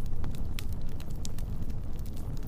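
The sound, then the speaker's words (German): A campfire among trees crackles with scattered sharp pops and snaps over a steady low roar of wind rushing past, fairly loud throughout, with no voices. “Die Flammen tanzen im Rhythmus des Windes und ihr warmes, angenehmes Licht wirft vertraute Schatten auf die umliegenden Bäume.”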